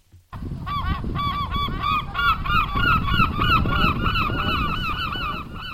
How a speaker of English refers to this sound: The cry of seagulls is a familiar sound along coastlines around the world, but so too is the problem of the birds swooping down and scavenging for food.